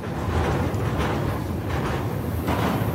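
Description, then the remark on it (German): A steady, loud low rumble with rattling and clanking of a freight train rolling along rails in the USA, ridden by freight-train hoppers, continuous throughout with no voices. “Ja, und so hört sich dieser Film an.”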